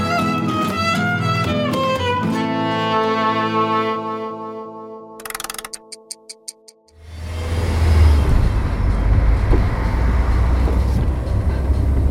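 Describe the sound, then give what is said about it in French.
A few seconds of tonal music, then a short run of clicks, and a steady, loud low rumble of road noise from inside a moving car being driven to a radio station fills the rest, with no talking. “Là actuellement, je suis dans la voiture.”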